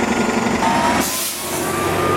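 A loud, rumbling bus passes in Los Angeles, its heavy engine drone filling the scene, with a sharp hiss of brakes or air around the midpoint; no one speaks.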